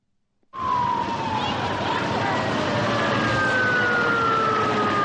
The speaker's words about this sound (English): The fears proved unfounded, but in Thailand, panicky crowds fled inland to the sound of sirens